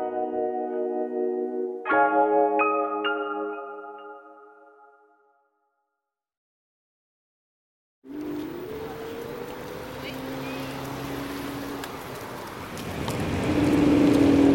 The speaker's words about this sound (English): I am on an electric scooter on the Mall, heading towards Buckingham Palace, dodging traffic,